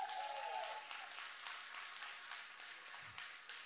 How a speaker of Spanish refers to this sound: Ese es un aplauso a ustedes mismas.